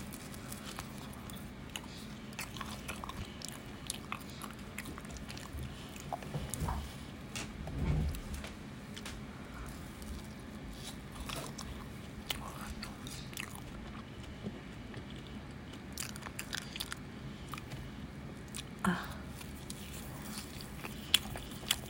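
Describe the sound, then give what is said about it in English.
Steady chewing with frequent crunchy bites and soft wet mouth sounds, continuing for the whole stretch with no talking. “I'm gonna have one more. Let's keep the head first.”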